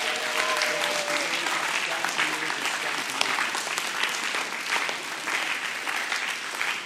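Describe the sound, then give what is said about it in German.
Steady, dense audience applause for Jesus fills the whole stretch, a broad crackling wash of many hands clapping at an even loudness, with a few faint voices and cheers mixed in early on. “Genau, lass uns Jesus mal einen dicken Applaus geben.”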